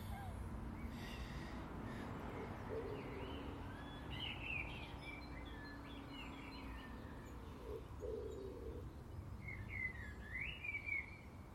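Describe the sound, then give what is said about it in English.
A pigeon coos a few low, soft phrases over a steady wash of outdoor background noise, with other birds chirping faintly. “Now that pigeon's showing off.”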